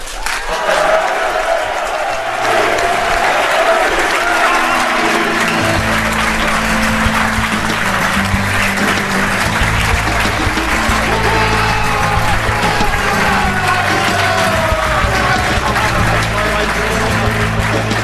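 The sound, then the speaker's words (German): A crowd claps steadily and loudly for the full stretch, welcoming the Millanton editorial team; dense applause that swells after the first few seconds, with a few cheers mixed in and a murmur of voices underneath. “Begrüßt bitte mit einem dem Thema entsprechenden Applaus.”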